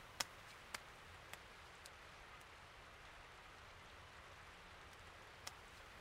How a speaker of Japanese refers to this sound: すごい雨だよね。急に降り出したから心配だったんだ。